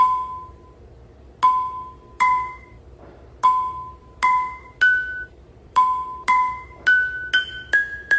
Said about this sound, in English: He uses ping pong balls with pots and pans to create different notes.